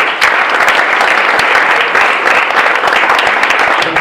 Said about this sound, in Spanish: Bueno, un aplauso para